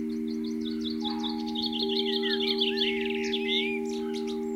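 Garden birds at a bird table chirp and twitter in quick, repeated bursts, recorded by a small microphone placed on top of the bird table, their calls overlapping over a steady, low electrical hum and faint background tones.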